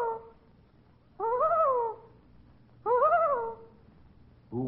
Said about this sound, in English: No, that's pretty close, though. That was a loon. A loon.